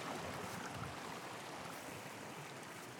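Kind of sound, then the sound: nature, flowing stream water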